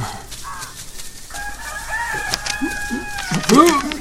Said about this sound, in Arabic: أنا رسالتي إلى القاضي وأشكو من الديك ومن صوته المزعج.